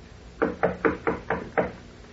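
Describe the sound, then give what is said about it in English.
Six firm knocks on the wooden door of a suite in a steady, evenly spaced rhythm, clear with no voices, each rap short and hollow. “I will knock.”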